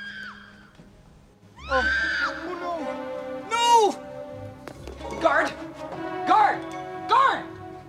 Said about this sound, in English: Stanley's laying toilet paper on the rim of the toilet in his cell when he hears Tina's screams. He looks out of the window and sees her being pursued by two men.